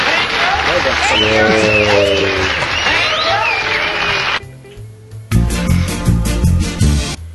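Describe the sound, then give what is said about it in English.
A crowd sound effect: a crowd cheers and claps in a dense, loud wash with whoops and shouts for about four seconds, then cuts off abruptly before music starts. “Yeah, let's just add the crowd sound effect.”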